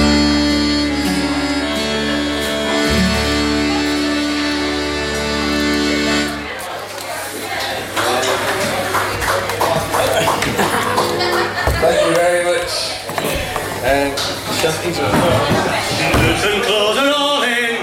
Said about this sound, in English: And as you can hear, that the applause is kind of diminishing somewhat.